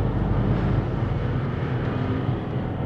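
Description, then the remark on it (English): A steady, loud low-pitched engine rumble from a city bus drones continuously on a cold night, with no pauses or voices. “Does this bus go right into the St. Clair station?”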